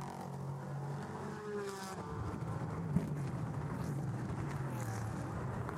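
A race car engine whines past, its pitch sliding down as it goes by, followed by a steady, buzzing engine drone that rises again toward the end. No one speaks.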